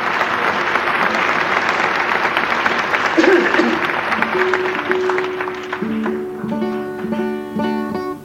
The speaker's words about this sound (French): De vrais applaudissements, voulais-je dire.